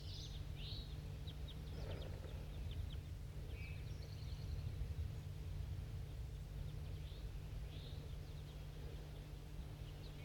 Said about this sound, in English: Start recording them back at 4-3. There's a whole flock of crossbills here.